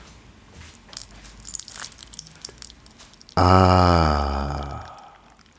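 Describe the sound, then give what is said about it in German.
Hot tea poured over rock candy, giving a few seconds of scattered crackles and sharp little pops, followed by a loud, drawn-out contented "ahh" from a voice that slowly falls in pitch. “Ich nehme dafür hier meinen Tee mal kurz in die Hand, schmeiße ein paar Klunches rein und jetzt gieße ich heißen Tee drauf.”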